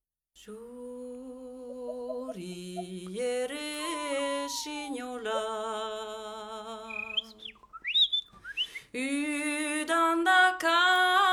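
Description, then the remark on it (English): Bright, bird-like whistling trills and swoops alongside a sustained, melodic vocal line singing the traditional Basque folk song The Nightingale, clear, with short pauses between phrases. “It's called The Nightingale, and it's accompanied by some impeccable whistling.”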